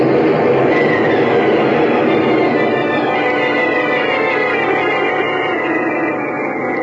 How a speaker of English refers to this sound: Holy smokes! The ground's cracking right under us.